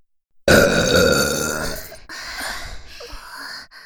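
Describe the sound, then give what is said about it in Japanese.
Five people belch loudly at the same time, their overlapping burps forming one long, raspy blast that trails into a second, rougher rumbling burp before cutting off. “つうわけで、5人同時ゲップ、楽しんでね。”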